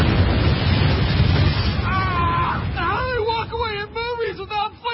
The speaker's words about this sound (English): Explodes behind them. There's no way. The movie industry is completely irresponsible for the way they portray explosions.